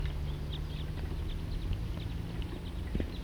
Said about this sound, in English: For recording, I'm now at the trailhead of the Cataract Trail, and that was a wild bird flying over. It's about 10:15 now, and there appear to be a lot of birds just flying over this general area.